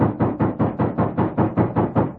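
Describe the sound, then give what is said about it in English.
A rapid, steady series of about ten heavy knocks on a door, evenly spaced and loud, with no voices. “And then, there was a loud knock on the door.”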